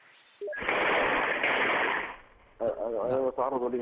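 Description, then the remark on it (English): A dense, crackling burst of rapid gunfire inside the house of one of Gaddafi's sons in Libya as rebels storm it, heard through a muffled phone line during a live call to Al Jazeera, then fades as a man begins speaking urgently. “I'm being attacked right now. This is gunfire inside my house.”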